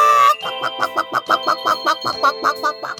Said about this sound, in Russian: Летающая курица на настоящем радио.